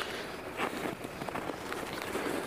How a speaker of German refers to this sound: Aber, Knirsch, knirsch. Okay, man merkt, dass der Schnee auch schon mal wärmer war. Knirsch, knirsch, knirsch.